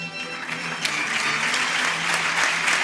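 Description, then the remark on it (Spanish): Sustained applause from an audience in recognition of the recipients of extraordinary doctoral awards, a dense steady wash of many hands clapping at a fairly loud, even level throughout with no voices standing out. “Pues hasta 23 premios extraordinarios, todos ellos no han podido asistir, pero ya han escuchado el aplauso y el reconocimiento para todas estas personas que han obtenido ese premio extraordinario de doctorado después de muchos años de estudio”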